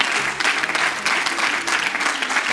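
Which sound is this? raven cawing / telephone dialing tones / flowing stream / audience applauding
audience applauding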